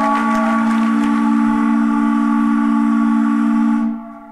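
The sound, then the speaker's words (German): A long, loud, sustained foghorn blast with a deep steady tone and strong harmonics, holding for about four seconds before cutting off and fading out, with no voices over it. “Das längste Nebelhorn der Welt.”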